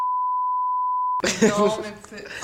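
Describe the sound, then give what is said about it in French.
A steady, pure censor bleep holds for over a second, completely covering the speech, then cuts off abruptly as a voice resumes talking loudly. “Arrête d'avoir des trucs à biper.”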